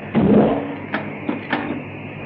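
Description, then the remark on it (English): A low mechanical whir swells up, then three sharp metallic clacks follow at uneven intervals as an elevator's magnets engage one after another, over a steady faint hum with no talking. “There go the magnets, Jerry. I can hear them.”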